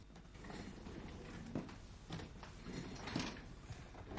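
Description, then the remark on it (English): A drawer slides shut with a few soft scraping, knocking sounds, set against a low, steady background rumble and no voices. “Closing the drawer, Abe creeps stealthily towards the white doors of a built-in closet and carefully steps inside.”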